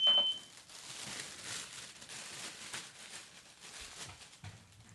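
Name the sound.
smoke alarm beeping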